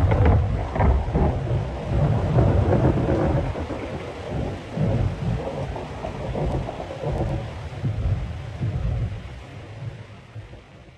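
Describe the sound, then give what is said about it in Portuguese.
A heavy thunderstorm with steady rain hissing throughout and deep rolling thunder rumbling continuously underneath, loud, with no voices. “Agonia, caiu a quarta-chuva.”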